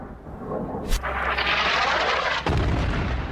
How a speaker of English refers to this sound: Usually silence follows an explosion, but after one airstrike